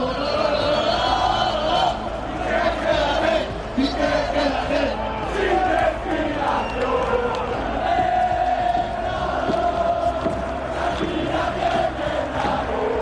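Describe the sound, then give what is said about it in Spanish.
A large stadium crowd at the Bernabéu, in Real Madrid's supporters' stand, chants in unison insults at footballer Gerard Piqué during a Clásico: a loud, continuous roar of many voices shouting rhythmic, jeering insults that swell and hold steady throughout. “Escuchen lo que le gritaron el otro día a Piqué en el Bernabéu.”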